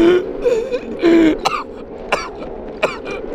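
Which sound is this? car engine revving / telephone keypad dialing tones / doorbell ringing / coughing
coughing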